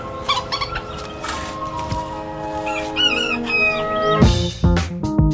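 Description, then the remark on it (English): Backyard chickens in North Carolina cluck and squawk in the early morning dark, with a rooster crowing through the mix; the calls overlap in a busy, continuous chorus, louder bursts near the end. “And no matter what time you're listening to me, you can be sure that I have been up for hours. Because I have chickens.”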